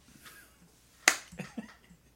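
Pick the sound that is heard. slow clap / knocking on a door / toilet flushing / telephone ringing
slow clap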